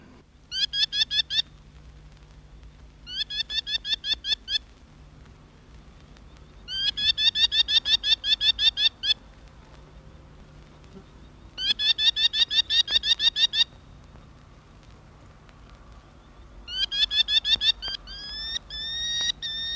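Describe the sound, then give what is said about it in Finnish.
A merlin calls in five rapid, shrill chattering series, each about two seconds long and separated by short pauses, heard clearly against a quiet outdoor background with no talking. “Nyt on sitten vuorossa vielä viikon luontoääni. Ampu Haukan esittelee Risto Salovaara.”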